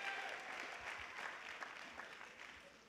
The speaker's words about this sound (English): Put your hands together for the Lord. That's right. Let's clap one more time for the Lord Jesus Christ.